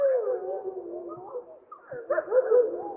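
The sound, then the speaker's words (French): A wolf pack howls together in a continuous, overlapping chorus, with several voices wavering at once and higher-pitched pup cries rising sharply near the end. “C'est une meute avec des louveteaux qu'on peut entendre qui sont beaucoup plus aigus.”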